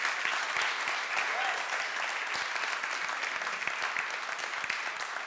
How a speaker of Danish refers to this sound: Så hende må jeg også godt klappe af.